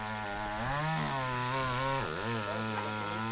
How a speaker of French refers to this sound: Est-ce que c'est une tronçonneuse? C'est une tronçonneuse, mais il va se passer quelque chose avec la tronçonneuse.